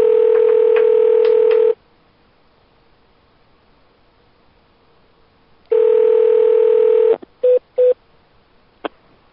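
A steady telephone dial tone hums loudly, cuts to silence, returns, then gives way to a few short keypad dialing beeps and a faint click as an international call to Russia is dialed. No one speaks.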